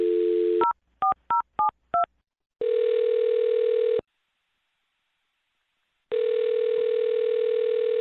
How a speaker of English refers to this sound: I'm going to dial this one right now, okay? Okay. All right, here we go.